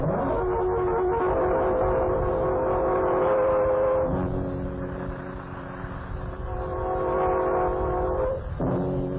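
vehicle, moving train

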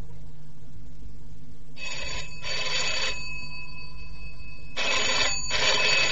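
household object, telephone ringing

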